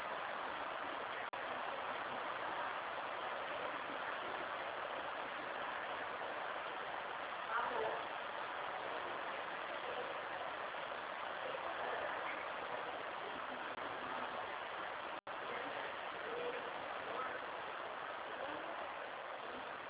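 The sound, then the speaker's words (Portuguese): Rain falls in a steady, unbroken hiss, a dense wash of noise that holds an even level throughout, with only a faint brief swell midway and no voices. “tá uma chuva aqui e o sistema tá meio lento.”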